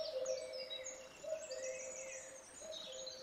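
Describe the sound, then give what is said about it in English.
A common cuckoo calling outdoors, a low, steady hooting tone repeating among busy, high-pitched twittering and chirping from other birds, fairly close and clear, with no voices. “Its cry at close quarters is harsh and ear-splitting.”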